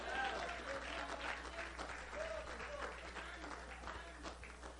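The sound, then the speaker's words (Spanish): An audience applauds to God in a steady, dense wash of clapping that holds at even strength for several seconds, with scattered voices and cheers mixed faintly into the noise. “Y le da un aplauso a Dios.”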